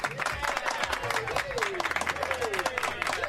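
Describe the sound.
A burst of steady, dense applause, many hands clapping quickly for about three seconds, with faint voices mixed in underneath.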